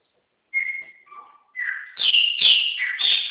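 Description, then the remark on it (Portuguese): Several birds chirp and whistle together in a bright, busy chorus, high tonal calls overlapping and growing louder toward the end, with no talking. “É muito pássaro, é?”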